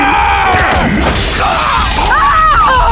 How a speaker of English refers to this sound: Bates slammed headfirst through the window, breaking the glass.